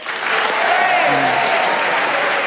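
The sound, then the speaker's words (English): Sustained applause from an audience for Paul Merton, this week's winner of the game: dense, steady clapping that swells in the first half-second and holds at a loud, even level, with a faint murmur of voices mixed in. “But let's have another round of applause for Paul Merton, who's the winner this week.”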